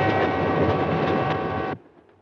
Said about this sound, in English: A train may be an old-fashioned way to travel, but an upper berth can be a lovely place to go when it's your time to go.